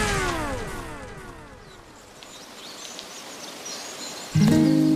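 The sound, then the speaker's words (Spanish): Faint, scattered birdsong of dozens of birds chirps in the background in a small Spanish municipality of 15 registered residents, while a vehicle passes by and fades away, then a sudden loud, steady tone cuts in near the end. “Ahí, además del cantar de decenas de pájaros, me recibe el alcalde”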